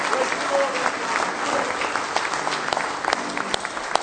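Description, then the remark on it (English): An audience claps hands in praise of the Lord, a dense, steady wash of many overlapping claps that stays loud for the full four seconds, with a few sharper individual claps standing out. “Give Him a real big hand clap of praise if you love Him tonight with all your heart.”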